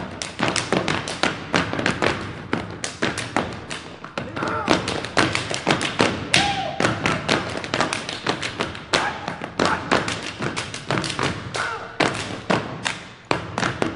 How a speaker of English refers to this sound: This is not a case where performers dance to the music, they create their own. Stomping feet, clapping hands, and slapping palms against chests, arms, and legs.